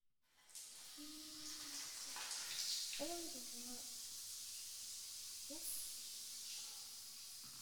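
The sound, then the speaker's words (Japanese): A shower in a hotel turns on with a soft click and then runs steadily, a continuous hiss of spraying water, with a few brief, quiet vocal sounds underneath. “それじゃ、シャワー浴びちゃいましょうか。”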